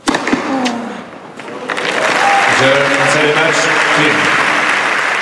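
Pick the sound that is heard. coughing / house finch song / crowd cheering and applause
crowd cheering and applause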